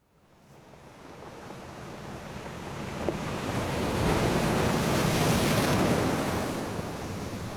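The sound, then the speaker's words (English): Stormy coastal weather with a hailstorm in Caithness: a broad, steady roar of gusting wind and crashing surf builds gradually, peaks midway and eases slightly, with no voices present. “I'm in Caithness and I'm literally standing in the middle of a hailstorm.”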